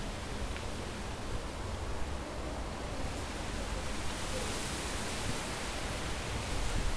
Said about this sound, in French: Simplement être là, sous le cerisier, regarder les feuilles, écouter. C'est agréable le vent, non?